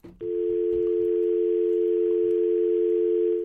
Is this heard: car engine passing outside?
no